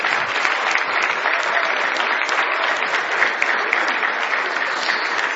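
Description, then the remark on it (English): An audience breaks into sustained hand clapping at a church service as praise to God, a dense, steady wash of applause that holds at a fairly loud, even level for several seconds with no talking over it. “Oh, let's give Him a great hand clap of praise.”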